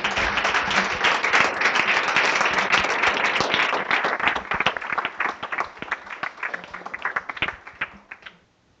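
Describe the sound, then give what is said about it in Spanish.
A crowd applauds with dense, steady clapping for about four seconds, then the clapping thins into scattered individual claps that taper off to silence. “Denle un aplauso a ese rey maravilloso.”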